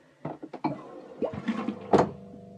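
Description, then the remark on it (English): A low-flow toilet in the women's bathroom of a public restroom unit on Lincoln Street in Sitka flushes quietly: a few mechanical clunks, then a short whooshing surge of water that quickly settles into a soft, steady hum. “The toilets are low flow and surprisingly quiet. I'm just going to go ahead and flush.”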